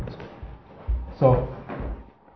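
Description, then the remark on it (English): A chair is shifted into place with two dull, low bumps about a second apart, while a person speaks over the movement. “Just leave another chair.”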